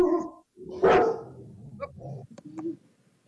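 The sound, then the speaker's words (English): A dog barks several times in a short, uneven burst, one loud bark standing out, followed by a few sharper, quieter yips. No one speaks. “Well, the dog benefits. He wanted to put in his two barks, so you understand.”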